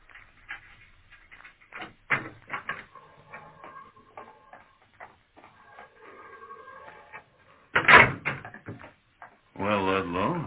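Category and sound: household object, corridor door being opened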